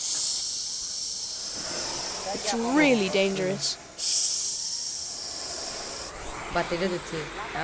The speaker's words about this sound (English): Sometimes when our masters get tired, they ask us to do their job. They take a nap and make us kids operate the blowtorch. The torch makes a hissing sound.